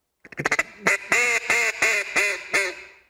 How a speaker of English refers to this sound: If you say 10, 10, 10. 10, 10. You notice your tongue comes up mm-hmm. and actually hits the roof of your mouth. So with a duck call, you're basically going 10, 10, 10.